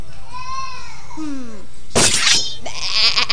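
A sheep bleats in two wavering, quavering calls, the second dropping in pitch, fairly loud. Two bursts of harsh, crashing noise follow right after.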